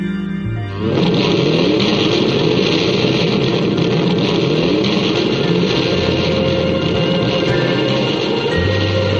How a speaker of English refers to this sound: Gotta let that motorcycle sound effect play on at the end of that track there, I always say.